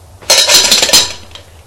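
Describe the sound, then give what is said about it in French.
A saucepan clatters as a man in a kitchen pulls it out of a cupboard to make herbal tea, a burst of metallic clanking and scraping lasting under a second, followed by a few faint knocks. No voices. “Une casserole.”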